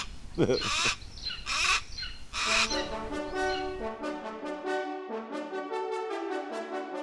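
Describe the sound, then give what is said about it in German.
A golden eagle calls in a steady run of high, thin, yelping notes, preceded by a few harsh, noisy bursts. The calls repeat in a monotonous series at fairly even loudness. “Weil das kann ganz schön nervig sein, das Rufen. Gerade das zum Beispiel von unserem Steinadler da hinten.”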